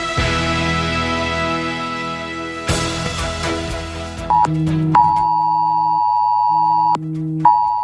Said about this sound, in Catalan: Per primera vegada, per molts de nosaltres, ha sonat l'alerta de protecció civil als nostres mòbils que avisa de risc d'inundacions per pluges torrencials